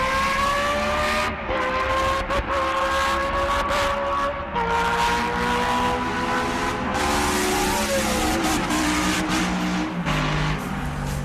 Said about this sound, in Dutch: Swan Smit die heeft ook moordneigingen als het om de jingles gaat... maar kan leven met autogeluiden.